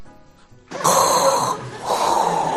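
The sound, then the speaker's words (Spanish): Someone imitates Darth Vader's heavy, mechanical respirator breathing in a joke about a Spaniard stepping on the moon: two loud, hissing breaths, a long raspy draw followed after a brief pause by a second harsh exhale. “Me estoy escuchando la respiración y digo, macho, le paso al Darth Vader.”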